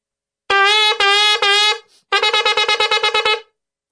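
A shofar sounds a shevarim-teruah call in two breaths, demonstrated by a rabbi: three medium blasts, a brief breath pause, then a rapid string of about ten short staccato notes, loud and reedy with rich overtones, no talking.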